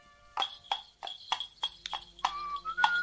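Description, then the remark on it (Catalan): Horses pulling a stagecoach trot along a road, their hooves clip-clopping in a steady rhythm of sharp knocks, with the bright ringing of jingling bells coming in toward the end. “Els cavalls, que anaven al trot, feien dringar els cascabells.”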